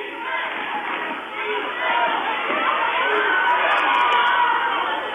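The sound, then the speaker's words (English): A loud, dense crowd of Hoona fans roars steadily throughout, voices blending into a din that swells slightly toward the end, chanting for defense at a basketball game with 3 minutes left and a 21-point lead. “We're down to 3 minutes now, and you can hear the Hoona crowd looking for a little defense.”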